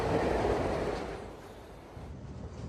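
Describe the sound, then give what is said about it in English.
The California Express train speeds out of the city heading west, rumbling steadily along the tracks: a loud, dense low roar with faint rhythmic clatter from the wheels, easing slightly in volume midway before building again. “The train speeds out of the city, heading west.”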